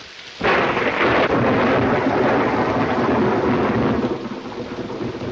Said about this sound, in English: Afraid of thunder? Oh, no. Just the noise. You know what thunder is, don't you? Of course. It's, something about the air.